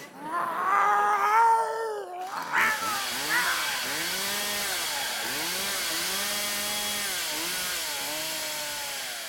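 Cats yowl loudly: a drawn-out wavering wail, then a harsh, noisy scuffle full of repeated rising-and-falling cries that continues without pause to the end.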